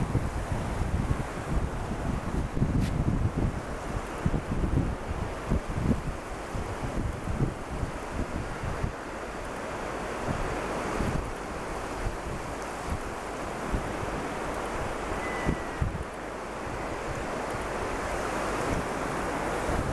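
Steady roar of sea surf with waves washing in, heavier low rumbling surges in the first few seconds, mixed with gusty wind buffeting the microphone; no voices.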